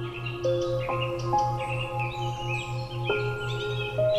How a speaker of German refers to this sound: Du hörst den Vögeln zu, wie sie dir ein sanftes Schlaflied singen.